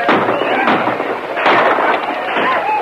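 Loud rifle gunfire as people fire from a window at attacking Indians rushing across a clearing: repeated sharp cracks burst out at irregular intervals over a dense, continuous roar of noise, with no clear pause between shots.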